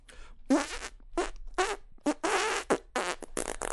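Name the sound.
fart noises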